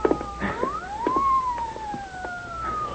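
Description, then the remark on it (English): A police car siren wails in long, slow rising and falling sweeps, with a few faint knocks and scuffs scattered underneath. “Hey, listen. Police car.”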